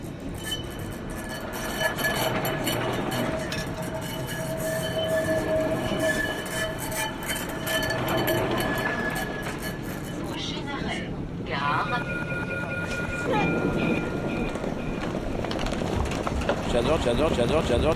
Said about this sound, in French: Il s'agit d'une analyse des sons que les usagers peuvent entendre à l'intérieur comme à l'extérieur du tramway de la ville du Mans et de la manière dont ils ressentent cette ambiance sonore.